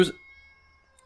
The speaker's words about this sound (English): This cat's running back there screaming.